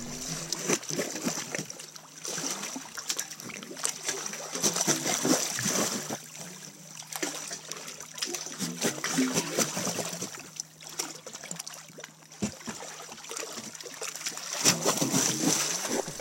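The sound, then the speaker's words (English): Water surges and sloshes steadily through narrow rock crevices, a continuous rushing broken by frequent splashy gurgles and slaps, fairly loud, with no voices. “The water was really moving in these crevices.”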